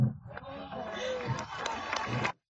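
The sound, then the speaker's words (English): A crowd of young voices, disabled high school students, chatters and calls out over a steady murmur, with a few sharp claps cutting through as they applaud Axel Kisilov. Fairly loud for about two seconds before stopping abruptly. “So why are they applauding?”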